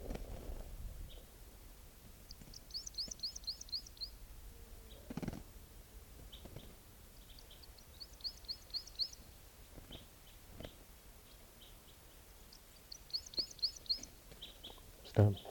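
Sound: bird calling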